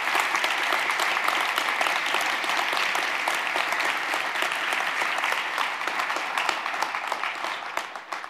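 Steady audience applause from many hands, a dense crackle of claps holding at an even loudness for about eight seconds before easing slightly at the end.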